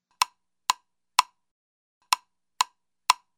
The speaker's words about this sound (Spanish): ¿Escucharon el toc, toc, toc del pájaro carpintero del bosque?